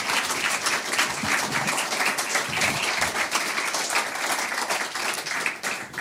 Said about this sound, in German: Ich weiß, es ist für manche Menschen komisch, an so einer Stelle zu klatschen, aber ich finde es auch komisch, vorher zu sagen, klatscht bitte nicht. Aber für mich gehört das einfach zum Gesamten dazu.